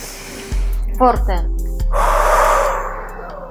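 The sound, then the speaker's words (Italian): A deep, forceful breath taken in sharply and then pushed out in a long, loud, airy exhale during a guided breathing exercise, with a brief voiced catch in the middle. “Facciamo proprio un respiro profondo.”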